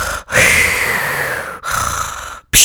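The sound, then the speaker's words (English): A voice imitates Darth Vader's heavy, mechanical respirator breathing: a long hissing inhale followed by a long raspy exhale, loud, then the start of another breath. “And I'm not like Darth Vader in this bitch going.”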